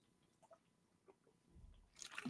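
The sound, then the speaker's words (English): Quiet sipping of water: a few small wet clicks and mouth sounds, then a louder slurping gulp at the end. No one speaks. “Pardon me while I grab a drink of water.”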